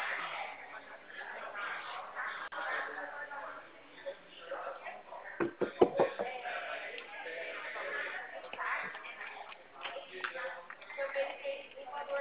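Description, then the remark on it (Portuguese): A door is pulled shut midway through, a quick cluster of knocks and clatters, set against muffled background voices and room noise on a thin, phone-like line. “Espera aí que eu estou fechando minha porta.”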